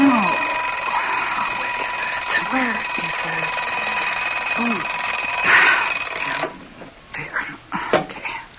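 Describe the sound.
A loud alarm clock in a house rings steadily for about six seconds in the morning, a bright continuous metallic jangle, then cuts off; low mumbling voices sound beneath it and continue briefly after it stops.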